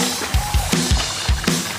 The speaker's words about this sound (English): This is the sound of E. coli splashing around in raw hamburger juice on your cutting board.